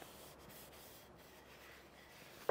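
Steady soft rubbing of a rag over the wood of a hammer, wiping off excess linseed oil, a continuous swishing with no talking, ending in a brief sharper scuff.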